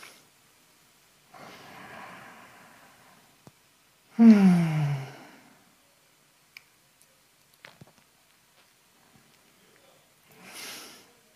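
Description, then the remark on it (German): Slow, deep breathing during a breathing exercise: a long airy inhale, then a loud, voiced sighing exhale, a quiet pause with faint clicks, and another soft breath at the end. No talking. “Wie kommen wir gut in den Körper, in dem wir atmen?”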